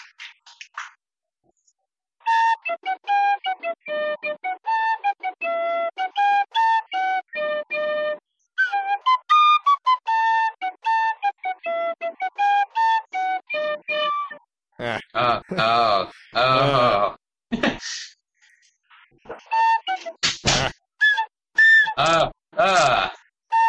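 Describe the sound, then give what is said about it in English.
An Irish tin whistle plays the Tetris theme, a bouncy melody of short, clear notes, for about fifteen seconds, fairly loud, before giving way to loud, ragged bursts of noise and voices. “I'm gonna play the Tetris theme on my Irish tin whistle.”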